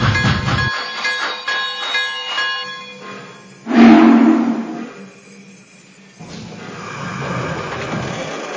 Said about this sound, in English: Train number 74, the Oakland Lark.